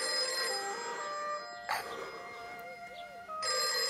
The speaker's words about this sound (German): Ein Telefon? Gibt hier ein Telefon?